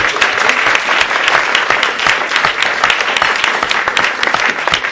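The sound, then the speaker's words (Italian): Steady, dense clapping from a sizable audience fills the whole stretch, loud, with countless overlapping hand claps and no voices on top, applauding people the speaker is thanking. “fate un applauso a loro, a Cecilia, Jacopo e Luca”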